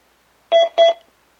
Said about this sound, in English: We heard the double beep, the stream is off, and we've now concluded Section 2, Player Overview.